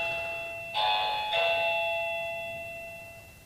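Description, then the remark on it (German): A doorbell rings with two bright chime strikes about half a second apart, the tones ringing on and slowly fading out. Clear, with no talking. “Es klingelt.”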